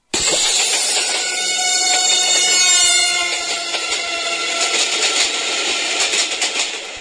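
A train rushes past with a loud, steady roar and hiss, its tonal hum falling by the Doppler effect from just above G as it approaches to about F sharp as it travels away. No voices are heard.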